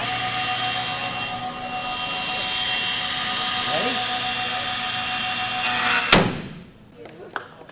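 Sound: table saw running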